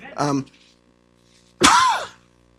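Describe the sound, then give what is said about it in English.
A person coughs twice: a short throaty, voiced cough, a pause of about a second, then a louder, harsher burst. No other talking. “I'm sorry, I'm coughing so much.”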